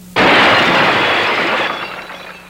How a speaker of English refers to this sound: What Brooks was mocking by having the camera hit the glass was the visual effortlessness that made Hitchcock films such fun, the tricky camera moves that were all the more intriguing when you couldn't figure out how he managed them.